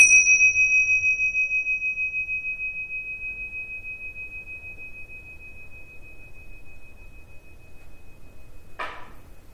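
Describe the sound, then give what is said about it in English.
A single meditation bell is struck once, its bright ringing tone slowly fading into a long, quiet sustain, followed near the end by a soft brief rustle. “And I'll ring the bell and raise your hand when you stop hearing the sound.”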